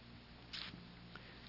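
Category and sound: household object, paper page being turned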